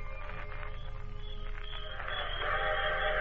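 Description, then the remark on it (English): The 9:45 steam train draws steadily closer, its rhythmic chugging growing louder as a sustained, high whistle sounds over the rumble. “There's the 9:45 now.”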